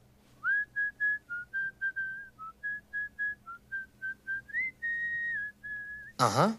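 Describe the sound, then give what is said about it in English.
A person whistles a tune alone, a steady run of short clear notes followed by a few held ones, fairly loud, ending with a sudden burst of noise. “Plus, I heard her whistling the same song I heard the killer whistle.”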